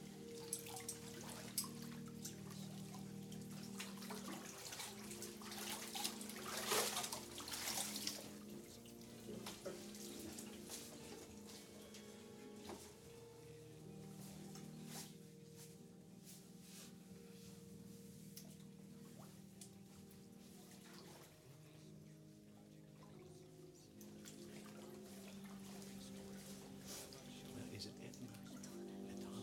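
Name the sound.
water dripping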